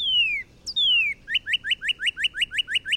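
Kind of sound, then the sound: bird, northern Cardinal song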